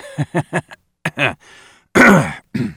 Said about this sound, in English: A brief spate of quiet and contained laughter came from … at his workstation, but he quickly covered it by feigning a cough.